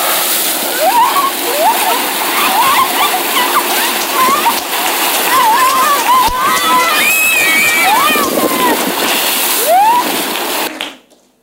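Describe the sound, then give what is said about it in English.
Fresh water gushes and splashes in a steady, loud rush from a borehole, while excited children's shouts and squeals rise over it throughout, until everything cuts off abruptly. “And water was there again.”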